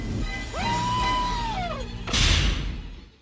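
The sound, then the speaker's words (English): The film character Clu lets out a long, high-pitched scream that rises and then trails downward, cut off by a loud, sudden crash as he crashes into a wall, all prominent. “I tried to upload Clue's scream, but when he crashed into the wall, I tried to upload that for you guys right now.”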